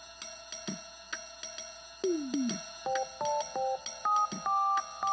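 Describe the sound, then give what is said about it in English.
Electronic tones of a telephone number being dialed, a quick series of short, steady beeps at shifting pitches, with a few clicks and falling tones before them. Clear, no voices. “Someone has made a nervous phone call.”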